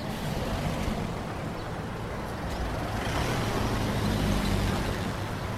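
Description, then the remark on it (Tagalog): Steady, dense roadway noise with engines idling and rumbling, several vehicles overlapping in a continuous low drone that swells slightly toward the end: jeepney traffic at a part of the Sunken Garden next to a jeepney terminal, a crowded, noisy area. “Medyo maingay nga lang sa bahaging to ng Sunken Garden. Malapit sa terminal ng mga jeep eh.”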